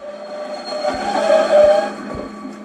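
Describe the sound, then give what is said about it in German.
A train rolls into the station at Münster in the Lüneburg Heath, Germany: a steady low rumble with a rising metallic wheel squeal and a few dull thumps from the cars, no voices. “Wenn man in Münster aus dem Zug steigt, sieht man auf den Bahnsteigen auffällig viele Soldaten.”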